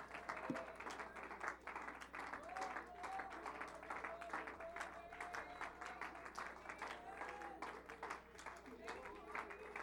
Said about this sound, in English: Now clap your hands and give Him praise.